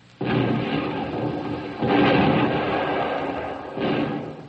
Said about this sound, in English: The welcome sound we've long been waiting for. The United States Third Fleet shelling Tokyo Bay.